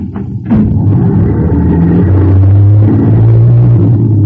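A bus carrying passengers to school starts with a thump and a loud, low engine rumble, then revs up steadily as it pulls away, its deep droning pitch climbing and holding.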